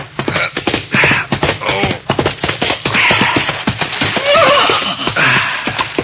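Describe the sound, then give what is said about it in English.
A horse gallops hard along a moonlit trail toward the home corral, its hooves pounding in a quick, steady rhythm, with a brief whinny breaking through midway. No one speaks. “a horse was pounding along a moonlit trail heading for the home corral.”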